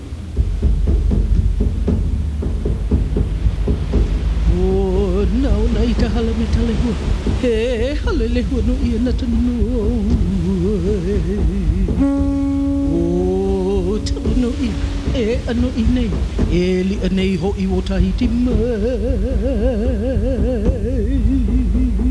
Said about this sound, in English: The ocean waves caress the beach here at Waikiki, while our warm Hawaiian welcome rides the radio waves to wherever you may be.